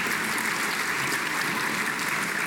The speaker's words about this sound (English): Please, before I do my other job, a round of applause for every single winner this evening.